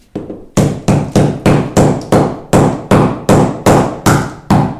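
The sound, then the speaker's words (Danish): Hammer blows knock a piece off frozen permafrost, about ten blows in a steady rhythm, each a loud, sharp crack with a brief ringing decay, no voices. “Banker vi lige et stykke af.”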